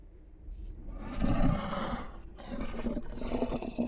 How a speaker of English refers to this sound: Growls from behind her made the hair on the back of her neck rise.